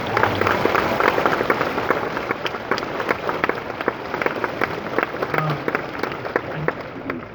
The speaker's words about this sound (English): All right, guys. Awesome. Big round of applause.